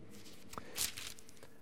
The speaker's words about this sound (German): Welches Kapitel in der Bibel ist ausschließlich dem Aussatz gewidmet? 3. Mose 13, genau. Wir werden nicht das Ganze lesen, wir können mal nur dahin blättern, um so einen Eindruck zu bekommen. Es ist nicht gerade das kürzeste Kapitel der Bibel.